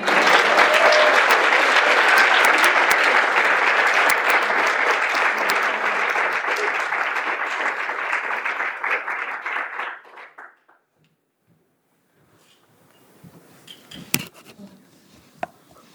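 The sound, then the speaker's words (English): Loud, sustained applause from a crowd for the speakers after their talks, a dense wash of many hands clapping that holds steady for about ten seconds, then cuts off abruptly into near silence with a few faint knocks and shuffles. “Please, can we have another round of applause?”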